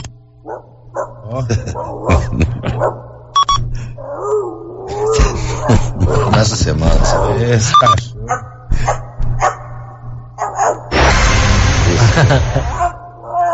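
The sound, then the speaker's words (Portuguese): Five dogs bark in rapid, overlapping bursts throughout, loud, with a person talking between them and a steady low hum underneath; a harsh noisy stretch rises near the end. “Ao toque de 5 cachorros a 2 quilômetros.”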